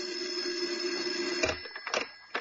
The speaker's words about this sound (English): As I was about to lift him off the bed, the phone rang. The shrill ring filled the room.